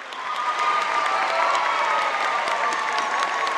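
A large concert audience gives a standing ovation as the Detroit Symphony Orchestra appears on stage, before the music begins: a dense, steady roar of many hands clapping that swells in quickly and holds strong throughout, with faint cheers mixed into the wash.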